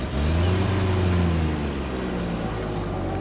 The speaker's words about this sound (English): A big van arrived. It swallowed all the boxes and furniture and curtains, and it drove off.